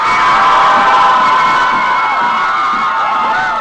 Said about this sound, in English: Here, outside the Supreme Court yesterday, Hobby Lobby supporters cheer.